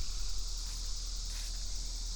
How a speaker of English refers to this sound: I can hear a bulldozer or other piece of heavy equipment